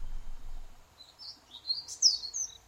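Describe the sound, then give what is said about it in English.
Soft, high-pitched chirps of crickets repeat rhythmically over a quiet rainforest background, with a brighter burst of chirping near the end. No voices. “The rhythmic chirping of crickets.”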